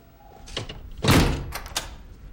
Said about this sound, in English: As Dr. Costa disappears down a hallway, Ben shuts and locks the door.